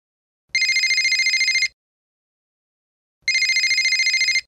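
A telephone rings twice, each ring a bright, rapidly trilling burst lasting just over a second, separated by a pause of silence, clear with no voices.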